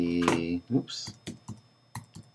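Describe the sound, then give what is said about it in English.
Rapid, irregular clicks of typing on a computer keyboard, fairly crisp, with a brief murmur of a voice at the start, while searching for the Joan Crawford movie Sadie McKee. “I wonder if you can hear that keyboard.”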